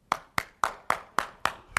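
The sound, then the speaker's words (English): Hands clap in a steady, even rhythm, about seven crisp, sharp claps roughly a quarter second apart, each ringing briefly before the next. No one speaks. “We clap our hands for lots of reasons.”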